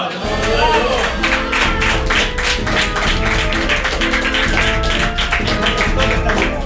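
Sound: applause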